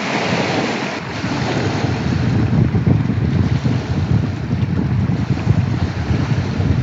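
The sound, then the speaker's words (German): Waves from Loch Ness, in the Scottish Highlands, wash steadily against the shore right outside the recordist's door in winter, a continuous, fairly loud churn, with gusting wind buffeting the microphone throughout and no voices. “Dazu hat er mir auch noch eine kurze Aufnahme von der Loch Ness-Brandung direkt vor seiner Tür zugeschickt.”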